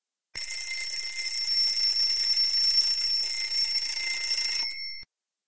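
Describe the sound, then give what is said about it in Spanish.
An alarm clock rings loudly and continuously at 8 in the morning for about four seconds, a shrill, steady metallic ringing that cuts off abruptly, with no voices. “Suena el despertador.”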